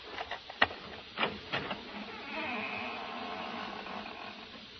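A front door's hinge squeaks as the door swings open: a few sharp knocks and clicks first, then a thin, drawn-out creaking whine at moderate volume, with no voices.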